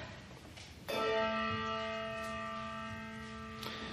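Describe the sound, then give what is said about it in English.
A church bell tolls once during a service celebrating the communion of saints, a loud clear stroke whose rich, shimmering tone hangs in the air and slowly fades, with a faint second touch near the end and no voices. “We celebrate the communion of saints and do so by calling for the sounding of the bell.”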